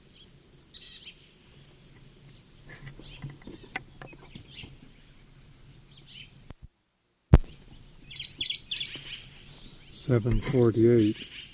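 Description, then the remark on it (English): Short, high-pitched sycamore bird calls come in brief bursts at 7:45, then after a pause an answering series of chirps follows from upslope to the southeast, faint over a low background, with a murmuring voice near the end. “Answer to the sycamore bird from upslope to the southeast.”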